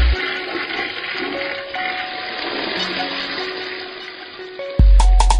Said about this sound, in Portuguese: Joga no vaso e dá descarga.